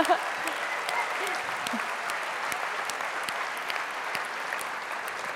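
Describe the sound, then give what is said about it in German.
An audience at the OKU, a free event, applauds steadily, a dense wash of many hands clapping at an even level for several seconds, with a faint voice or two briefly audible beneath. “Genau, da dürfen wir auch mal klatschen.”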